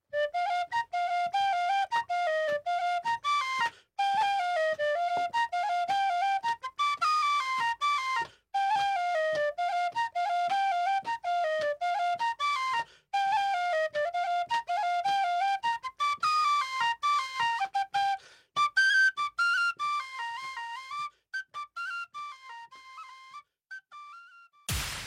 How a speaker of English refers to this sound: Here's a little bit more tin whistle.